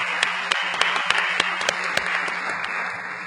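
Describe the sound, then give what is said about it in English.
A crowd at an American Library Association Council meeting applauds steadily to thank councilors who volunteered as election tellers, a dense wash of many hands clapping with a few sharper claps standing out, holding fairly even before easing slightly toward the end. “Let's give them a hand and thank them for volunteering.”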